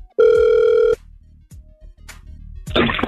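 A single loud, buzzy ringback tone sounds for almost a second on an outgoing phone call placed from a radio station, followed by faint line hum and a few clicks, then a burst of crackling static as the call connects.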